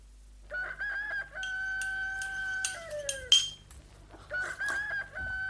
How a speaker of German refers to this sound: Den Hahn müssen wir abschaffen. Der wird sonst die Gäste aufwecken.